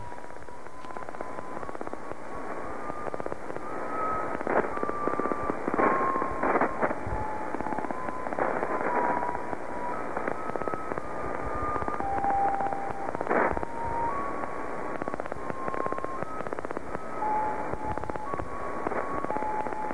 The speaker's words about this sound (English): Well, let's take a more in-depth listen to that. I'm wondering how many times myself or our listeners may have been tuning through and just thought this was, noise, static, interference.